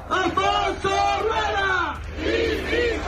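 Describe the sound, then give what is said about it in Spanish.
Protesters in Galicia, Spain, chant 'lumes nunca más, incendios nunca más' in unison against the Xunta's handling of wildfires: loud rising and falling shouted phrases with a steady rhythm, voices massed together over a rumble of background noise. “26 localidades se han llenado al grito de lumes nunca más, incendios nunca más.”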